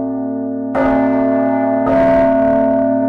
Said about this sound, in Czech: Srdce zvonu na ukázku rozkymácel kampanolog